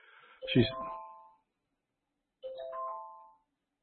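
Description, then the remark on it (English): An alarm goes off with two bright electronic chime bursts about two seconds apart, each a clear multi-note tone that rings briefly and fades, with quiet in between. “I better snooze that alarm 1 hour.”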